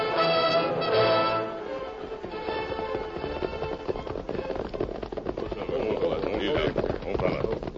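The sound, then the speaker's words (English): Horse hooves, including the horse Silver's, clip-clop in a quick, steady rhythm through a lit-up town at night, the clatter continuing throughout with voices talking over it. “stay with the horses, will you?”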